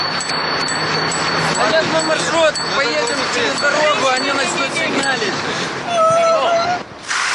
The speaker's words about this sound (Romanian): Cu claxoane și zgomot produs de frâne, i-au salutat cicliștii pe guvernanți pentru a-i convinge să renunțe la nelipsitele mașini de serviciu în favoarea bicicletelor.